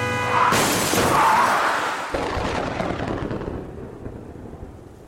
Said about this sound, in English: Look out! Just then, a huge truck smashed into us from the side.